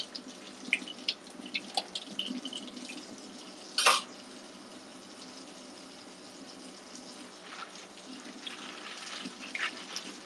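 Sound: running water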